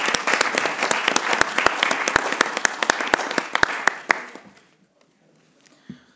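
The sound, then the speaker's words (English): A short burst of applause from a meeting's participants congratulating a newly chosen chair and two new vice chairs, many hands clapping in a dense, steady patter for about four seconds before fading quickly into near silence. “I would like to suggest at this point maybe a brief round of applause to congratulate them.”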